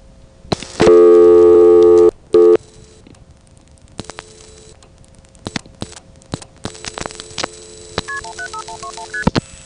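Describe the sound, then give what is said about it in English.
Phone line sounds while calling a non-working number through Kingston Inward: a loud sustained tone lasting about a second and a half, a short repeat, then a series of clicks and a quick run of dialing tones over faint line hiss. “but hey, it's worth it to hear these phone noises.”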